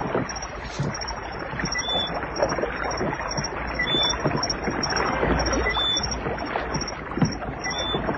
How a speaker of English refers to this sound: You'll never hear us swimming against the splash of his oars.